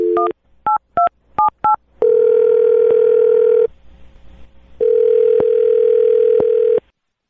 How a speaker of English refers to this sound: I'm going to dial his phone number right now, okay?